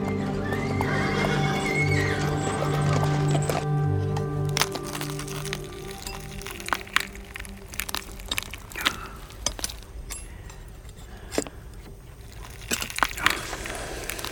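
A horse whinnies loudly for a few seconds, then hooves clop in an uneven series of sharp knocks on a hard surface, with no voices.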